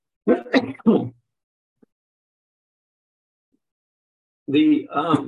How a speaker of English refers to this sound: Excuse me, I've got a little bit of a cough tonight.